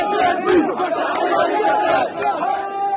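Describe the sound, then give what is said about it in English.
A crowd of thousands cheers and shouts at a street celebration in the Gaza Strip, East Jerusalem and the West Bank. It is a dense, continuous, loud roar of many overlapping voices, with individual cries rising briefly above the steady din. “Thousands of people came out. They set off fireworks and some waved Hamas flags, cheering the militants who rule over Gaza for their victory over Israel.”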